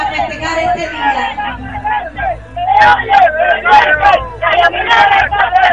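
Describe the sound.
A loud crowd in Minas, Cuba, shouts slogans in unison as it enters the festival grounds, many voices chanting "Se siente, se oye, la geominera está presente" in rhythmic bursts that swell stronger and more forceful toward the end, with a low rumble of traffic underneath.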